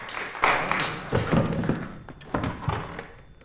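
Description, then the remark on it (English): A chair is fetched and set down for a nobleman, with a few wooden thunks and scraping taps: a cluster of short, fairly loud knocks over a few seconds with no one talking. “March makes his entrance, and Eve fetches him a chair.”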